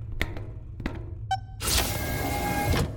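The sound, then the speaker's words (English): A door opens: a couple of clicks and a short squeaky tone, then a broad, steady whooshing slide lasting about a second before it stops. Fairly clear, with no talking. “Here's the door.”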